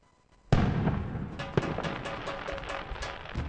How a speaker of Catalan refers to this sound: Passaràs un Sant Joan sense petards? De cap manera!